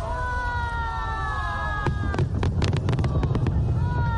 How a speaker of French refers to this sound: Des feux d'artifice tirés au stade national de Pékin lors du coup d'envoi de ces 24e Jeux d'hiver.